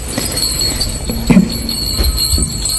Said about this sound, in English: So one of the ways that you know a Tomta is around is if you hear that sound, but you don't see anybody ringing the bell.